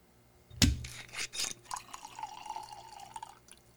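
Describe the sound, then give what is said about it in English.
A sharp clink, then Jōzen Aqua Junmai sake splashes and gurgles into a glass, settling into a steady pour with a faint ringing tone that fades after a few seconds. No one speaks. “Well, let's get this sake into our glass.”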